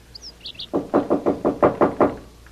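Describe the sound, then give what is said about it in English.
A man on a balcony pounds his fist on the door of apartment 2A in a steady run of about eight heavy, evenly spaced, loud bangs, after a few faint high chirps at the start. “Sure enough, this guy is on the balcony in front of 2A, banging on the door.”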